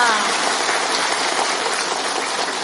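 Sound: applause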